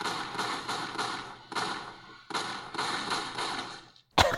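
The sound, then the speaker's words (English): A rapid string of gunshots fired from a gun into a closet door, each loud crack trailing into a noisy, echoing wash, followed by a brief pause and one last sharp shot at the end. No voices. “Donald emptied his gun into the closet door.”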